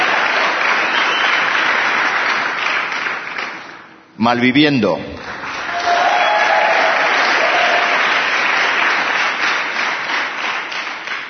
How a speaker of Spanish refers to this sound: Y los nominados son... Un segundito que andamos. Citun Love. Aplauso, aplauso ahí. Aplauso, aplauso.